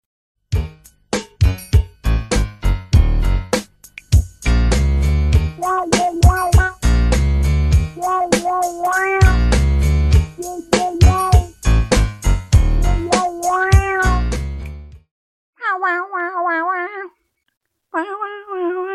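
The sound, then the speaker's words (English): A bouncy, loud jingle from a foot odor spray commercial, with punchy percussion and bright instruments, dotted with meowing calls; near the end the music drops away, leaving a few drawn-out meows on their own. “And it had this ridiculous jingle.”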